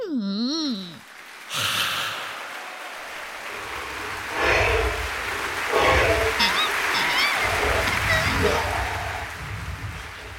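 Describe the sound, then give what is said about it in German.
A brief swooping, sing-song tone opens, then steady applause for the dragon's curtain call on the opera stage, from the opera The Magic Flute, breaks out and continues for several seconds, a dense patter of clapping with a few whistle-like cries rising through it. “Applaus für den Drachen auf der Opernbühne.”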